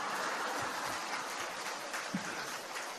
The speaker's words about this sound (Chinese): 你们现在知道师父要掌声是这么要来的